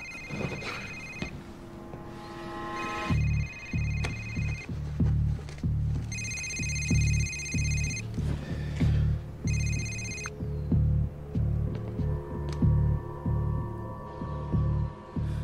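A mobile phone rings in someone's pocket with a bright electronic ringtone, repeating in short bursts for several seconds over a steady low rumble, with no one talking.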